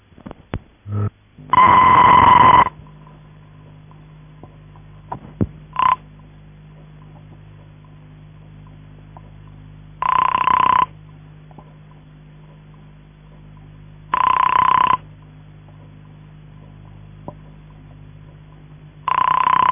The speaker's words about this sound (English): This tone then disappeared. So you hear a brief burst of this horrible noisy tone, then ringing tone and busy tone.